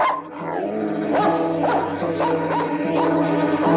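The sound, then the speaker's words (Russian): A dog, Mukhtar, whimpers and yelps in a pen in a steady run of high, rising whines broken by short barks, fairly loud throughout with no one talking. “Глупая собака!”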